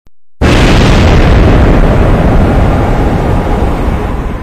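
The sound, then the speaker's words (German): A single loud, sharp blast of exploding hydrogen gas (oxyhydrogen) erupts after a brief silence, followed by a dense roaring rumble that slowly tapers off across several seconds with no voices present. “Das Wasserstoffgas explodierte daraufhin.”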